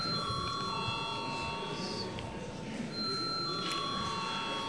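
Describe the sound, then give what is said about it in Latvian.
A parliament voting bell rings continuously for several seconds before a vote on a bill amending the library law, a steady, high, buzzing electric tone over a low murmur of many voices. “Paldies, lūdzu zvanu.”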